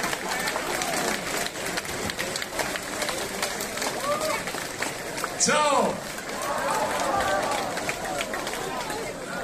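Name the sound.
concert audience applause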